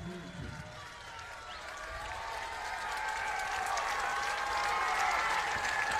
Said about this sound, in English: Out number two! Boyceville crowd on their feet!